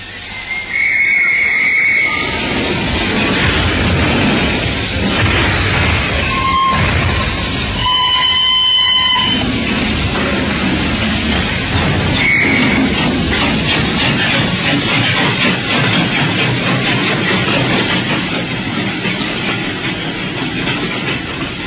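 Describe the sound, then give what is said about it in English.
The 10:30 train pulls away from Paddington station, its steady rumble and rhythmic clatter filling the scene while sharp whistle blasts sound near the start. Loud, with no voices. “Then on Saturday, unless you hear to the contrary, we shall meet at the 10:30 train from Paris.”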